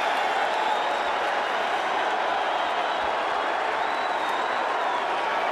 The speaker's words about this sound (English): Pete Rose just got tombstoned! Pete Rose! Tombstone, and this crowd in Boston loved it!